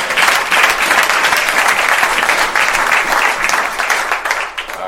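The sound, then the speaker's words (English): An audience breaks into sustained applause, a dense, steady wash of many hands clapping at once. It is loud and tapers slightly near the end, with no speech over it. “How many believe he deserves a round of applause?”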